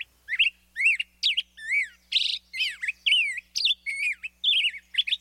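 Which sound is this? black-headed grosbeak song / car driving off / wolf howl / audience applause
black-headed grosbeak song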